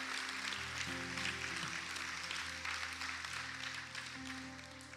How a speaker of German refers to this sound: Gebt ihnen einen Applaus, was sie machen. Amen.